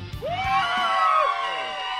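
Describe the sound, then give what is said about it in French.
A loud, sustained crowd roar for a wrestling entrance fills the two seconds, with many voices cheering and shouting together in a dense, continuous wall of noise. “Entrée de lutte, je veux que ça crie!”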